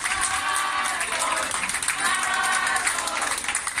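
A group claps steadily and loudly throughout, with dense continuous applause and voices chanting together in rhythm underneath.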